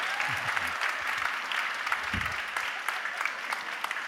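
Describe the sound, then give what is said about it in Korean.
An audience at a church applauds steadily after a sermon as a speaker comes up, a dense wash of many hands clapping at an even level, with a few low murmurs or voice fragments briefly surfacing beneath it. “저 올라올 때 박수를 치시는 건 일종의 공식이 됐나 봐요.”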